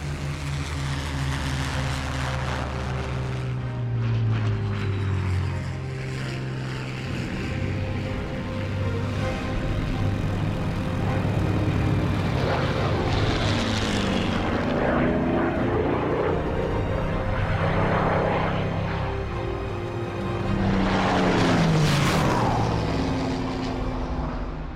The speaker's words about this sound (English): Spitfire 9 was really very, very good machine. It got a lot of power. That's what was needed.